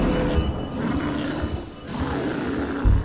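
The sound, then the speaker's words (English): A mad bear, reared up on its hind legs after being stabbed, roars in a deep, rumbling growl continuously for about three seconds, loud, with a rough, guttural texture and a heavier surge at the very end. No one speaks. “It is mad. It is roaring.”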